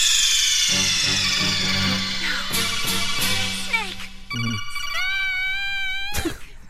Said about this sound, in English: ringing sound, by the way, like, I have been in multiple meeting, like these like group demo things where someone's phone will go off with that noise.